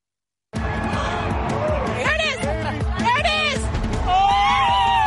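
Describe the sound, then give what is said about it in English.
A large crowd in America cheers continuously as a total solar eclipse reaches totality, with overlapping excited voices, whoops and high-pitched screams rising and falling over a dense roar of babble that swells louder toward the end. “Crowds cheer as the rare astronomical phenomenon passes overhead.”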